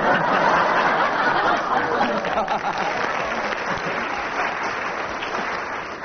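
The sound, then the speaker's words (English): Sustained audience applause, loud and dense from the start, with scattered laughter mixed in, gradually easing slightly over about six seconds. “Two lots of applause for you,”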